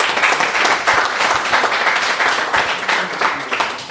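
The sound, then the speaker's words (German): A crowd applauds steadily, a dense wash of many hands clapping at an even loudness for several seconds, with no clear voices standing out. “Also dafür wirklich nochmal allerhöchsten Respekt und Applaus.”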